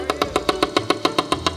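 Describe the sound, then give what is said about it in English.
A voice imitates a woodpecker's pecking: a rapid, steady series of about a dozen sharp, evenly spaced knocks, fairly loud, with no talking underneath. “Here's that old woodpecker.”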